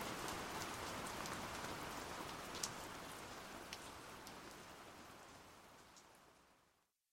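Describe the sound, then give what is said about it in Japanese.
Steady, soft rain patters continuously with scattered droplet taps, holding an even hush before fading out near the end. No voices are present. “今日の雨は優しく感じる。”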